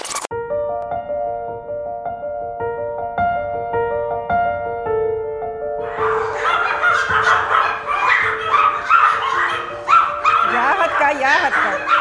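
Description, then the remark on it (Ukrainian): Pomeranian spitz dogs at a breeding kennel bark and yip excitedly, greeting visitors, a chorus of high-pitched yaps that builds to a dense, overlapping clamor partway through, loud, with steady tonal sounds running beneath. “А це так нас зустріли у розпліднику померанських шпіців”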